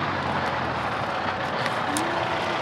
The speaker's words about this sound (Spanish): Uy, viene un coche, nunca he visto un coche por un ahí. Un coche aquí dentro, wow.